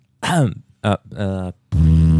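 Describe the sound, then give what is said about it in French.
A string of four buzzy, tonal fart sounds, each a short burst with a wavering pitch, the last one longest and loudest, with brief silences between them. “Ce n'est pas un bug sonore. J'avais envie de péter, j'ai pété.”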